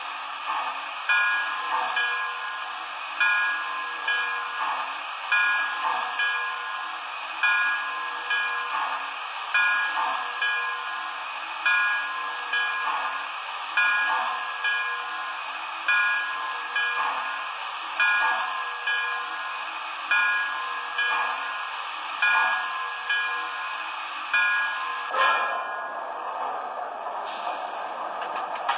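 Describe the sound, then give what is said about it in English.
A passenger train, train number 30, the National Limited, rolls steadily along the rails, its wheels clacking over track joints in an even, repeating rhythm beneath a constant rumbling hiss, with the tone shifting near the end as it slows for its stop at North Philadelphia. “Train number 30, the National Limited.”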